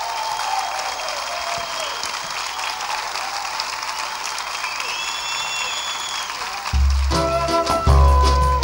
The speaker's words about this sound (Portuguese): Vamos aplaudir agora o nosso professor